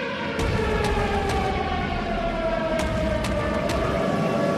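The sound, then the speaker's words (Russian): An air raid siren wails steadily in Kyiv, Ukraine, heard at a metro station, its sustained tone slowly gliding in pitch over a constant rumbling background, with a few sharp clicks punctuating it; no one speaks. “Вы сейчас слышите сирену? Да, я слышу сирену.”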